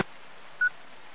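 A single short electronic keypad beep, like one telephone button being pressed, sounds over a thin, steady hiss of a phone line. No one speaks.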